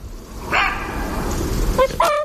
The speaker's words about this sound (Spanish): El gañido y el tautar del zorro.